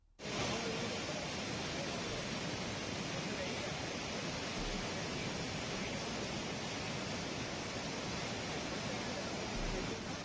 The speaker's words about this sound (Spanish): Así sonaba la fuerza del agua a su paso por la playa fluvial de San Nicolás. Los vecinos dicen que ni el puente podía verse.